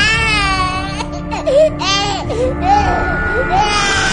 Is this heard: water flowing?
no